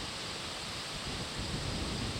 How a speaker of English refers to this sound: Do you guys hear that? It sounds like white noise, but it's actually wind and cottonwood trees on my family's farm in Iowa. I love that sound. It's my childhood, and I'm not sure how many more times I'll get to sit in this cottonwood grove.